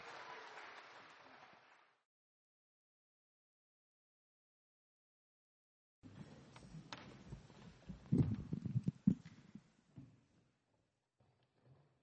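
A short burst of applause from a gathered crowd fades out, followed by a few seconds of silence, then a longer stretch of clapping mixed with thuds and shuffling movement.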